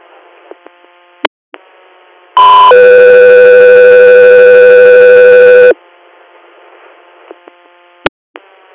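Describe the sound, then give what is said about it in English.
Radio dispatch alert tones paging the Sky 3 air medical crew: a loud, steady electronic tone holds for about three seconds, framed by sharp clicks and a low hum of radio static before and after, with no talking. “Sky 3 Air, stand by for Tones.”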